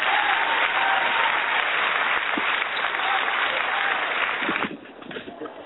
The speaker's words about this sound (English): Let me give a quick applause for them.